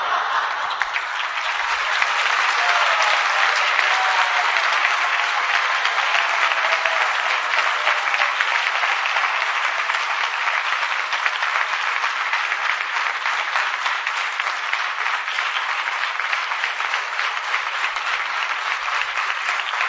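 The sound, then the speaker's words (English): Sustained audience applause: dense, crackling clapping from many hands holding steady and loud for the full twenty seconds, with no talking on top. “Clapping is a very nice ritual.”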